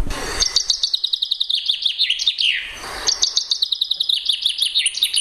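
A common chaffinch sings two bright, rattling song phrases in a row, each a quick descending series of notes ending in a flourish, clear with no voices.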